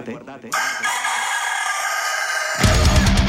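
A rooster in a farmyard lets out one loud, long crow, held for about two seconds, followed by a burst of rough, noisy sound as it ends.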